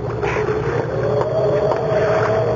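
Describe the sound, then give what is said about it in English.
A boat's engine drones steadily over a constant wash of water noise under a cloudy sky, with a low, even hum and no break for the whole moment. “Hold that boat steady.”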